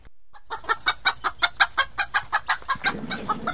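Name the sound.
hens clucking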